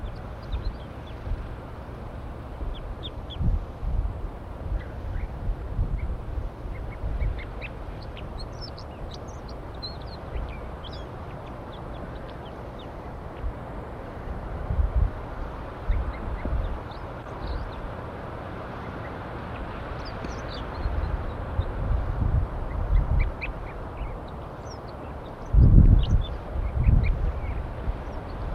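Wild birds perched in a pine tree call in short, scattered bursts over a steady low rumble, with a few louder thumps near the end. The calls stay fairly faint and irregular, and no one speaks.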